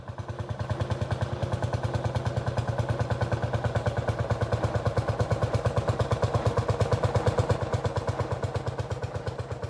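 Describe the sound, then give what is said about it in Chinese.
A tractor pulling a trailer loaded with wet soil drives in from the edge of a village, its engine chugging steadily with a rapid, even thumping beat, low and loud, holding a constant rhythm for the whole stretch with no voices. “还未进村，我就听到砰砰的声音从村头传来，于是就躲到麦秸垛后面，探头看开过来的拖拉机。”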